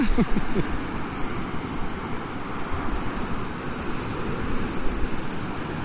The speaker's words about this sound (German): Mann, ich hoffe, man kann irgendwas verstehen hier. Nicht, dass der Wind irgendwie uns hier den Sound kaputt macht.